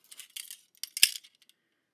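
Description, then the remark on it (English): Small metal handcuff keys jangle in a few quick bursts of light, bright clinks, one sharper clack in the middle, then a couple of faint ticks before going quiet. No one speaks. “These are keys to the handcuffs?”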